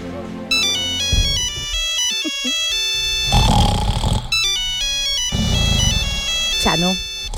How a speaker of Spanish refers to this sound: Hombre, contesta, que te está sonando el móvil. Es verdad, me he quedado dormido.